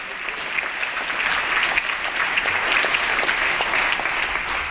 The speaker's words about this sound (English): And you can applaud on that. Republicans, you can applaud. Come on. Best thinking.